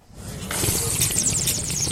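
A loud, drawn-out slurp of ramen noodles, a wet, airy sucking that swells quickly and holds steady for over a second with a hissy, bubbling texture. No one speaks.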